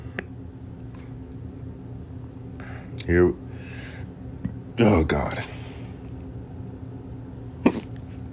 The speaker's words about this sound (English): Oh my god, I don't know why every time I'm about to record, I get like hiccups, the burp. Something's going on with me, man, every time. See, here we go.